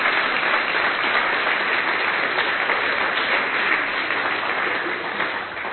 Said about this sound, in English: So let's give Roy and Ursula a real great round of applause. Thank you so much. Thank you.